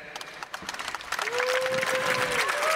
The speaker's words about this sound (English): That's Open Door. Okay, I kind of got that clap. That was like a 5 out of 10 clap.